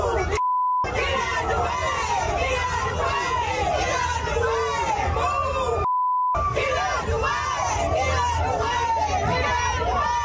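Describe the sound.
A large crowd in footage of the Montgomery Brawl sings a song together loudly in a dense, continuous wash of voices, interrupted twice by short bleep tones that briefly cut out the singing.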